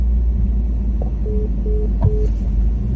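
Steady low engine rumble fills a car interior, a constant drone with faint brief tonal beeps and a soft click partway through; no one speaks.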